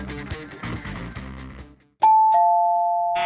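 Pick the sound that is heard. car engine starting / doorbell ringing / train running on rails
doorbell ringing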